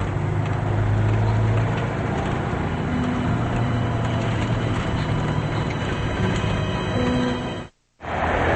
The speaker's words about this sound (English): The truck pulls to a stop and several men run toward the back.